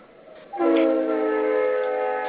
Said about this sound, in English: Ooh, train. I hope nobody was in front of that train.